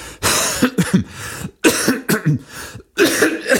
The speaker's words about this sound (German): Ich lasse einfach mal die Husten da drin. So wisst ihr wenigstens, dass ich auch wirklich krank bin.